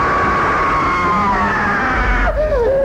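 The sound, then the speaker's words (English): A man voicing Bush in a dramatized story screams: a loud, sustained scream holds a strained, steady pitch for about two seconds, then breaks and slides downward at the end, with no talking over it. “Bush screamed.”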